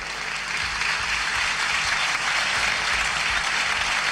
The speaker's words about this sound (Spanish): Con una ovación, los parlamentarios de la Asamblea Constitucional se ponen de pie, además, para aplaudir las palabras de Nicolás Maduro Jr.